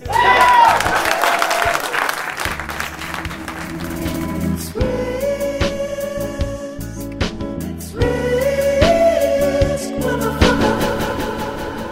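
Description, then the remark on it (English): An audience applauds steadily for about twelve seconds, a dense wash of clapping that stays fairly loud throughout, with some tonal sounds mixed in underneath. “I'm done. Clap.”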